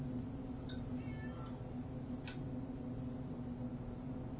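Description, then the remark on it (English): A cat meows a few times, short high-pitched calls, over a steady low hum with no talking. “Ignore the cat.”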